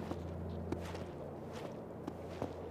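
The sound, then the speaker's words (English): Footsteps of a team walking quietly and cautiously toward a lagoon crunch over snow and ice in a slow, steady rhythm, each step a short gritty burst over a constant low hum. No one speaks. “They walked quietly and cautiously towards the lagoon, with no sound but the snow and ice crunching beneath their feet.”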